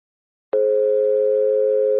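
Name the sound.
answering machine beep tone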